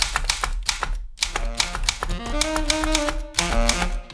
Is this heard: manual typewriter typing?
yes